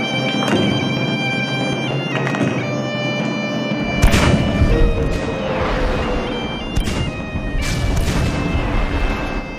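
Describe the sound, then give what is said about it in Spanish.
Gunshots and bomb blasts crack and boom at irregular intervals, five or six loud bursts over a dense, rumbling backdrop with steady ringing tones underneath. “Ruido de tiros, de bombas”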